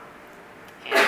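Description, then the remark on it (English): A single sharp sneeze bursts out after a moment of quiet, loud and abrupt, with no talking around it. “Bless you.”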